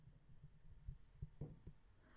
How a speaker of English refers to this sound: How is the breathing going? Are you still counting to my heartbeats, or is it just freestyling?